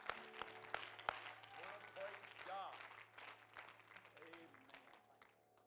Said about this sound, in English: And everybody say, in Jesus' name, give the Lord another mighty hand clap of praise tonight.